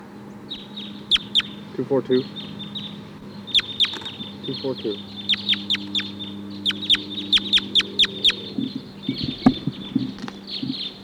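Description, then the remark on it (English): A flock of about 14 to 16 wild crossbills chitters in the treetops in rapid, repeated bursts of sharp, high call notes, with a steady low hum and a few soft murmuring sounds underneath. “There's a huge flock of crossbills here now.”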